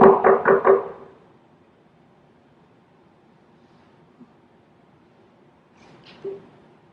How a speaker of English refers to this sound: He sometimes wants us to pray without ceasing. Keep on knocking like the old widow.